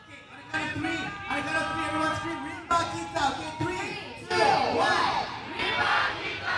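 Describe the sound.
A crowd of participants in the annual Rimba Kita programme in Malaysia, an event with a 5 km run, shouts the Rimba Kita cheer loudly in unison, voices rising in rhythmic bursts with layered harmonics, sustained over several seconds with a few sharp accented peaks.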